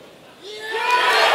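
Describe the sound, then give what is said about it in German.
A brief hush gives way to a crowd at a state party conference in the Böblingen Kongresshalle bursting into loud, sustained applause, with cheering voices rising within the roar, as an electronic vote on a big screen shows 54% for Alice Weidel. “Erst mucksmäuschenstill, dann tosender Applaus.”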